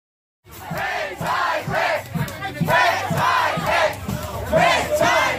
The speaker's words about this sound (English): Demonstrators shouting "Red Tide Rick" at Florida Republican Governor Rick Scott earlier this week in Venice, Florida.